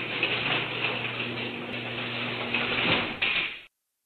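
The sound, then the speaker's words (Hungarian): A garage door rumbles along its track as it opens, a car drives in and the door closes, with a steady motor hum underneath, then a clunk near the end before it stops abruptly. No voices. “Egy óra után megállt az autó, hallottam, hogy egy garázsajtó nyílik, behajtunk, és az ajtó becsukódott.”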